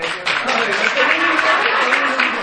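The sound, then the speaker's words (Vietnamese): An audience breaks into steady, dense applause, a continuous wash of many hands clapping at an even loudness for a couple of seconds, with faint voices mixed underneath. “Vỗ tay lên đi.”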